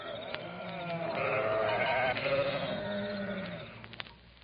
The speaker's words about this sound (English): Out there in the hills, shepherds were keeping watch over their flocks of sheep that night.